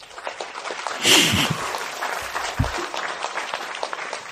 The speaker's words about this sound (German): Und damit einen großen Applaus an die drei Protagonisten für diese Weltklasse sensationellen Witze.